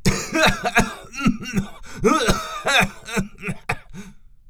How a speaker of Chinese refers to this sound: 黑龙也不甘示弱，立刻喷出大股黑烟，呛得红龙直咳嗽。